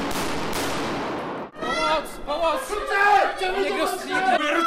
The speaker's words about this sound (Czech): V jedné z hal v bývalém areálu Poldi Kladno se ozývá střelba a výbuchy. Cvičí zde speciální jednotka kladenské městské policie.